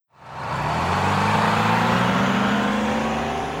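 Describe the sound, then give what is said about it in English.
A bus engine roars, building quickly and holding a loud, steady rumble with a slowly rising pitch as it accelerates. No one speaks. “It's a bus.”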